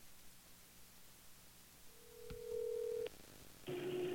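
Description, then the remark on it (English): A phone call being redialed: a click, then a steady electronic tone, and after a short pause a ringing tone begins over hissy line static. No one speaks. “What the fuck happened? I'm calling back.”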